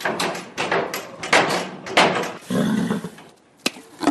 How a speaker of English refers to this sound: As an agitated horse kicks a stable door for food before crunching a carrot,